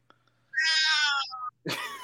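A pet cat lets out a loud, drawn-out meow, trailing into a short tail, then a second strained, raspy meow begins after a brief pause.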